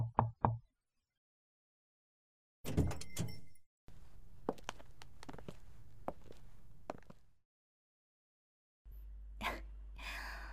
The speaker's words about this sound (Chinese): 不是，老板，你说的关门就是把门口的牌子翻了个面儿，这也太随意了吧。